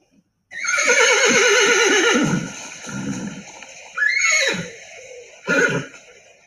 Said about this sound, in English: Well, I have a horse sound. And I was wondering if you can tell me what this horse is saying, okay?